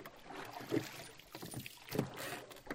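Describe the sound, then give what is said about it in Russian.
Oars pull a small skiff through water in two strong, evenly spaced strokes after it is pushed off from a landing stage, each a splashing surge over a steady wash of water and light wind, with no voices. “Не теряя ни секунды, спрыгнул вниз, удержал равновесие, поднял со дна весла, вставил в уключины, оттолкнулся от дебаркадера, мощными грибками погнал лодку вперед.”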